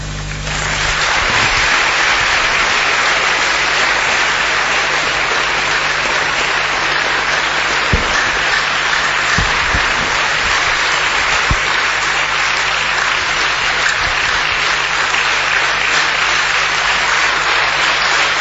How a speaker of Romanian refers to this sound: Lăsați că sunt sătul de aplauze și de bătăi